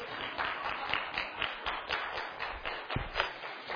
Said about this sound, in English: Okay. So anyway, that's my moon demonstration. I think applause would be appropriate.